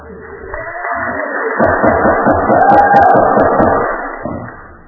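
An audience at a public hearing on a special permit and zoning applauds for about five seconds after a speaker's comments, a dense wash of clapping that swells in the middle and then tapers off, with crowd murmur mixed in.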